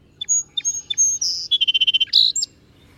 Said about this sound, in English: Some of the birds that I've seen there are song sparrows that are living in my grandmother's backyard. I see them every summer.